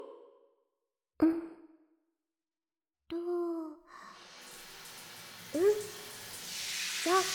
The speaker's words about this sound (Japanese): 次はお待ちかねのヘッドスパ、ヘッドスパ HSMR しますから、シャワー頭からかけて背中を流しますね。